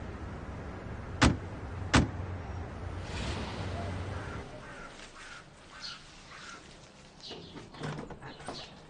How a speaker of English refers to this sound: Won't you park the car and come in? Right this way. Please come in. Park the car further ahead.